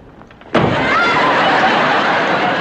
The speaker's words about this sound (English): You didn't have to slam the door in my face.